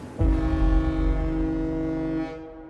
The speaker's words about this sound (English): And then out of nowhere, one of the ships lets out a loud blast of its horn.